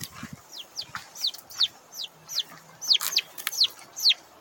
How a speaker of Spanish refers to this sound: Y este es el sonido de los pollos y un pollito.